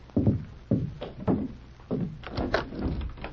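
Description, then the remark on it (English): A door being opened, with a series of dull thumps and a brief rattle of the latch and hinges, with no voices. “The door. I'll see who it is.”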